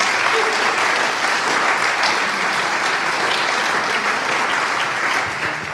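Sustained applause from a sizable audience, a dense steady wash of clapping hands that stays loud and even for several seconds before easing slightly at the end.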